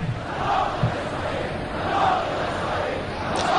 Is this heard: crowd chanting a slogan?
yes